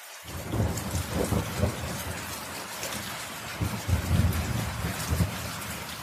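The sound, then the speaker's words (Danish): Steady rain falls with a constant hiss, while deep rolls of thunder rumble beneath it, swelling and fading several times. No voices, just a continuous downpour. “Det stresser planter og træer, og havde det ikke været for den her uges regn, så havde vi nok set et par bekymrede landmænd i nyhederne inden længe.”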